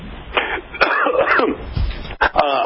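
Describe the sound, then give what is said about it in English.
A few rough coughs with some throat clearing, loud, in short bursts with brief pauses between them and no talking. “I hope I wasn't too close to you for that cough.”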